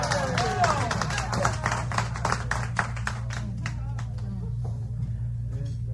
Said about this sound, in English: Oh, thank you. You don't know what that applause is doing for me. You don't know. I can't express in words.